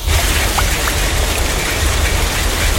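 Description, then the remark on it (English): Heavy rain pours down in a dense, steady roar, with a deep low rumble beneath the constant hiss and no voices present. “Chaque année, des pluies intenses et des inondations soudaines touchent votre territoire.”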